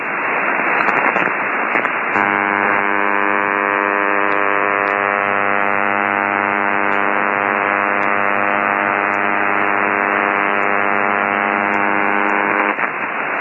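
Steady radio receiver noise recorded by Jim Watkins, KI6GU, an unidentified mystery noise: a broad hiss gives way after a couple of seconds to a loud, unwavering hum with many stacked harmonic tones, holding constant for about ten seconds before cutting back to hiss.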